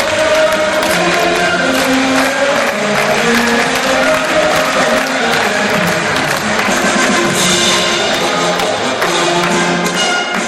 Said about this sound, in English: They are greeted by the school's anthem, second year students cheering them on, and ….